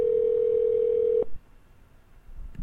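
A steady telephone dial tone holds a single pitch for just over a second, then cuts off abruptly, leaving a quiet line with faint background hiss and a small click near the end.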